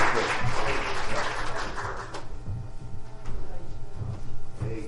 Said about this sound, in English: Amen. Praise God. Let's get another hand clap. Praise for the Lord.